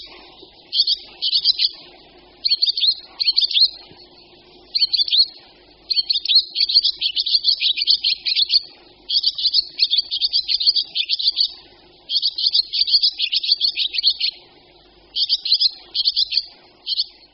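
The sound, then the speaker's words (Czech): Barn swallow calls: rapid, high twittering chirps in dense bursts of a second or two, repeating with short pauses throughout, clear, with no talking. “Po vyhnízdění se vlaštovky zhlukují do velkých hejn, tvořených mnoha tisíci ptáků, a až do zářijového či říjnového odletu do tropické a jižní Afriky nocují v rákosinách rybníků.”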